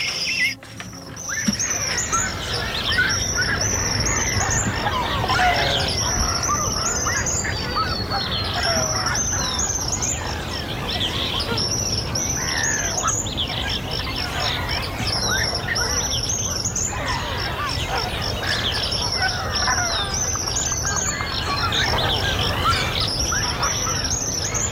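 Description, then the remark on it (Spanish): A dense dawn chorus of many birds calling and chirping at once in an ombú forest by the Balizas stream in Rocha, with repeated high whistles and honking calls layered over a constant, busy outdoor background. “Este es un lugar donde hay muchas aves.”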